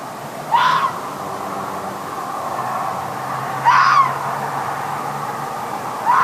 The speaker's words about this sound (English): Gary, it's not a bird. It's a fox.